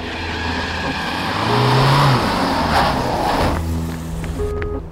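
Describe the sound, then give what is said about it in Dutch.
A van's engine rumbles as it drives up to a home in early February 2006, the low drone swelling louder and rising slightly in pitch before easing off and settling into a steady idle near the end. “Van der Bijl staat in de deur van zijn woning als er een busje aankomt rijden.”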